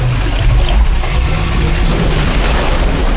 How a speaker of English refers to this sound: Look what you did. The water's going down. It's going down.